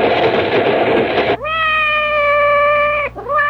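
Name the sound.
seagull cries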